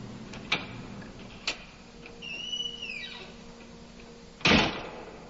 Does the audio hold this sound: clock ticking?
yes